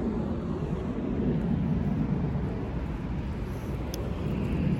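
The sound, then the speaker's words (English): A steady low rumble of an airplane passing overhead, unseen above the clouds, a broad continuous drone that stays fairly constant and moderately loud throughout, with no voices present. “Is that a plane or what? Oh, that's definitely a plane.”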